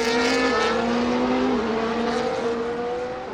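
A loud, high-pitched Formula 1 race car engine whines past, its tone sliding down as it goes, with a constant roar of more F1 cars and crowd noise behind. No one speaks.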